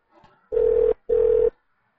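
Two short, evenly spaced ringback tones, the buzzing double ring a caller hears through the phone line while waiting for an answer on a call to the Asiana Rest and Nightclub. Steady and fairly loud, with no voices.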